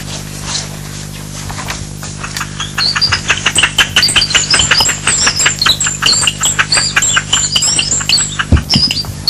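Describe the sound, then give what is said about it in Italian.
A dense flurry of high, rapid bird chirps and tweets repeats steadily over a low background hum, lively, with no one talking. “Ormai gli uccelli erano liberi di volare felicemente.”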